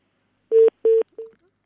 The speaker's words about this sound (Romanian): Dar văd că telefonul nostru sună în continuare. Să vedem pentru ce.